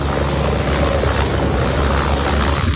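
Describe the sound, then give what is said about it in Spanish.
A firefighting aircraft, which holds up to 10 firefighters, scooping up water with its bucket to drop on a fire: a loud, steady engine roar with a rapid low throbbing beneath a dense rushing hiss, continuous throughout and with no voices. “Así suena cómo recoge el agua para poder acudir al incendio y dejarla caer sobre el fuego.”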